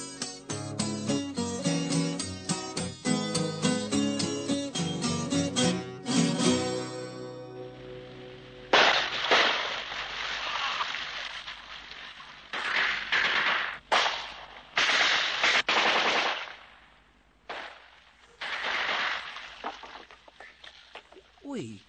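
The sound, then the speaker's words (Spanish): A few seconds of brassy music give way to a long, chaotic barrage of gunshots depicting the 5 de Mayo battle in which an inexperienced army defeated the French army: loud, overlapping bursts of gunfire crackle and pop irregularly. “¡Cuántos balazos!”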